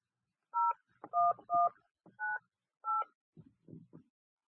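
A quick run of five touch-tone keypad beeps as a phone number is dialed, each a short steady dual tone, followed by a few faint soft clicks or handling sounds.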